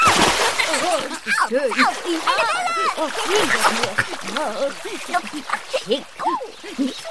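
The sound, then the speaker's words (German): Water splashes and sloshes steadily in a pond for several seconds, fairly loud, with a bright, fizzy wash. Soft, warbling voice-like sounds rise and fall underneath throughout. “Dann planscht die kleine Erdbeerfee gemütlich auf ihrem Seerosenblatt”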